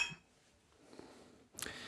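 beer glasses clinking

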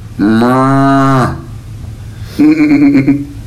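cow mooing

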